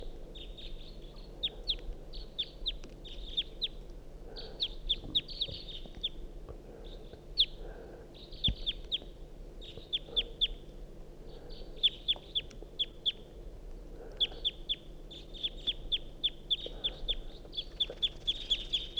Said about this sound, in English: Wild bird, stop. Start recording the same wild bird.